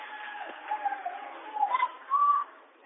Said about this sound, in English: Battle for the rebound underneath, and then finally ripped away by Hackler, and now a whistle and a foul. I think they're going to get Weber with this one, which would be his second.